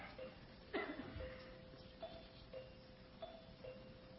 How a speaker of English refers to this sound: a dead man would have heard the bell by this time.